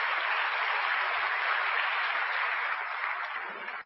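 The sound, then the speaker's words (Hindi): A crowd claps steadily to welcome a speaker, in a dense, even wash of applause that holds at full strength for several seconds, then stops abruptly; no voices are heard. “हम सभी भाई साहब का जोरदार तालियों के साथ स्वागत करेंगे।”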